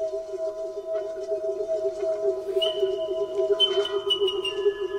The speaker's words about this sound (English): It's the resonance. The thing about the calls of South Island Korkako, unlike any other bird call I've heard in the world, is they seem to be able to produce a natural resonance.